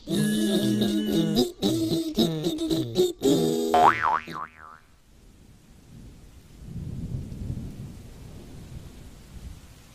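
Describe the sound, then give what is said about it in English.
A bright musical jingle ends with a springy wobbling boing, then a stormy stretch follows: a low rolling rumble of thunder swelling over a steady hiss of rain. “One stormy day, the three little squirrels were stuck under a small cherry tree.”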